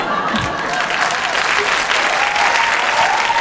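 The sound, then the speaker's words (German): A crowd applauds steadily for a few seconds, a dense, even wash of many hands clapping at once with a brief rise of voices beneath it. “Ich schaue ja mal ganz gerne ins Publikum, meistens klatschen nicht so viele Männer.”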